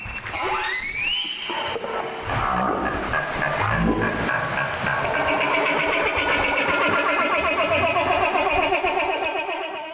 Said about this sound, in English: That was a social call from a humpback whale that's involved in a feeding behavior called bubble netting.